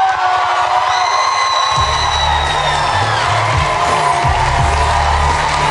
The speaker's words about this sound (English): So here she comes marching through with all those little monitors and everybody's screaming as if they actually care.